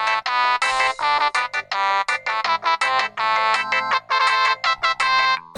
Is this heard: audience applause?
no